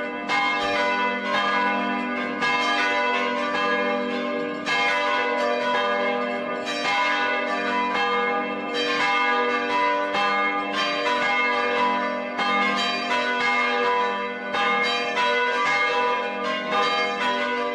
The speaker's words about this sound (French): Ils mettent toutes les cloches en branle, la castre, à Notre-Dame de la Platée, pour appeler toute la ville